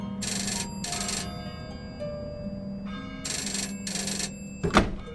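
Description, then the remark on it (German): A toy telephone in a dollhouse rings in two bursts of bright, rapid trilling, each a pair of short rings, with a steady low hum underneath and a sharp click at the end. “Da ertönt im Puppenhause laut das Puppentelefon.”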